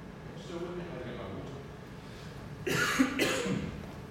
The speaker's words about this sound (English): Too many coughs.